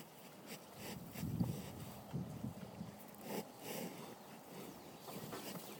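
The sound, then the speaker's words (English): Cows sniffing: several soft, breathy snuffling bursts at irregular intervals over a steady outdoor hiss, fairly quiet, with no talking. “Those are cows sniffing.”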